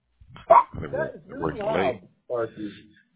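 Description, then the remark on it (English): A dog lets out a sharp bark followed by a string of yelping, whining vocalizations, with a short pause before a final burst. “I got two German Shepherds and two Chihuahuas.”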